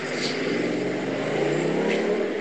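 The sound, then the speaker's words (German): Steady, loud traffic noise at a large, busy intersection, with a continuous engine rumble and broad road hiss, with no pauses or distinct individual vehicles. “Jetzt sind wir auf einer großen Kreuzung, 1 Million Autos.”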